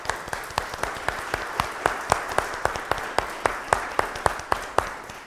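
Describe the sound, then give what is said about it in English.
An audience gives a warm round of applause during a church service to welcome those sharing ministry with them, many hands clapping steadily and densely throughout, with sharper individual claps standing out over the crowd at moderate volume. “But now with that, before we finish the rest of the service, I invite all of you to show them the great love that you have and the excitement that you have in sharing ministry with them by giving them a nice warm round of applause.”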